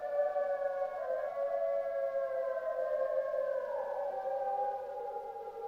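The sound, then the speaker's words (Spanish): Several wolves howl together outside, long overlapping wavering cries sliding slowly in pitch, steady and fairly loud throughout with no voices. “Fuera los lobos acechan.”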